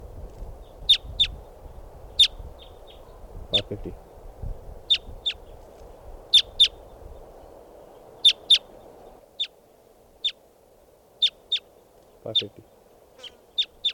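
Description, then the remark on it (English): A flock of about 10 or 12 type 2 crossbills, perched at the top of a tall Douglas fir by a camp, gives repeated sharp, high call notes in an irregular series, about twenty calls over the stretch, while a man talks quietly underneath for part of it. “Our type 2s must be about 10 or 12 birds. They're perched up on the top of a tall Douglas fir, right here by the camp.”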